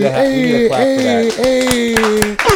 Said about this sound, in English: We need a clap for that. That's definitely a milestone number, 75.